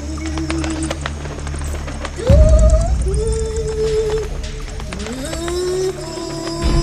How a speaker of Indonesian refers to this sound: Sekarang, si penyihir berubah menjadi seekor burung hantu. Dengan mata yang menyala, ia terbang mengelilingi burung bulbul tersebut dan berteriak 3 kali.